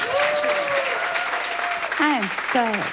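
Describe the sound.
An audience claps steadily and densely for the whole three seconds, with sustained cheering voices and a couple of rising-then-falling whoops carrying over the applause.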